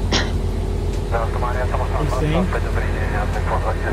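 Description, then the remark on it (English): A steady, loud airliner engine drone in a flight simulator hums continuously throughout, low and even, as the plane climbs to about 5,000 feet, with a person talking over it for much of the time. “It's been forever since I've, like, flown these planes.”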